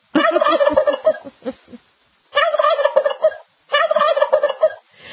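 A turkey that was brought into a studio gobbles loudly in three rapid, rattling bursts, each separated by a brief pause, with no voices present.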